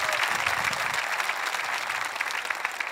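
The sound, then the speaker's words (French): Steady applause from a church audience after a sermon on following Jesus, a dense, continuous patter of many hands clapping at even loudness throughout, with no voices standing out. “On va applaudir.”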